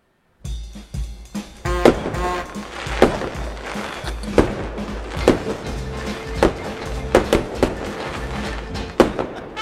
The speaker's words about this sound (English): We got the fireworks to celebrate. We're all ready to go. Honest to God, when I heard that first firework, I'm like kind of ducking these days.